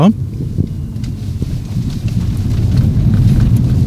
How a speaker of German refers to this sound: Ich halte jetzt für den nächsten Teil das Mikrofon etwas weiter weg, fahre durch eine Baustelle. Und da hört man dann auch Kieselgeräusche etc.